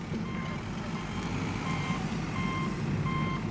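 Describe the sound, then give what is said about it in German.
A heavy wheel loader reverses down a slope at a construction site in the morning, its low diesel engine rumbling steadily while a high backup alarm beeps at regular intervals, four evenly spaced tones over the engine noise. “Ein Radlader rollt rückwärts den Hang hinab.”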